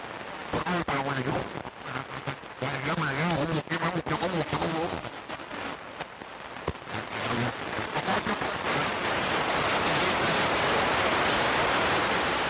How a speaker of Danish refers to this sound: Det vi hører her, det er radiokommunikation på kortbølge. Det er stemmer, der langsomt overdøves af en solstorm